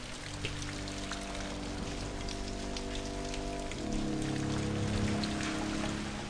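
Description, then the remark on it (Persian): Steady cold rain, brought on by an alien weather machine, falls and patters on a surface, a continuous dense hiss with scattered drops, growing slightly heavier in the second half, with a low droning hum beneath it. “ماشین آب و هوا موجودات فضایی هوا رو برای انجام کاراشون سرد و بارونی کردن.”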